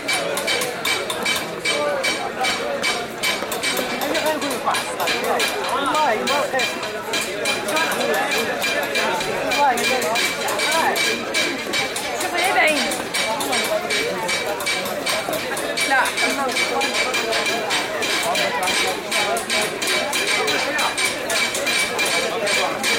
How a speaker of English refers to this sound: In the Place Safarin, the stone chiselers work nearby the men who hammer the designs on brass trays. And sometimes it seems as though the rhythm of one is picked up by another.